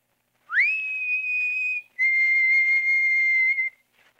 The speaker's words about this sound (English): When it grew dark, I carefully opened the window. Just a little way. And when I had it open, I put my head out and whistled softly. Like this. At first, there wasn't a sound. So I whistled again.